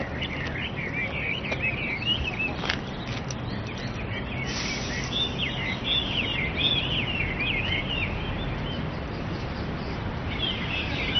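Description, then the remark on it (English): Several laughing thrushes, a type from southern China kept as companion birds, sing at once in central Beijing: a dense tangle of bright, warbling chirps and whistles running continuously over a steady outdoor background hum, with no one speaking. “Many Chinese keep birds as companions, specifically a type of laughing thrush from southern China.”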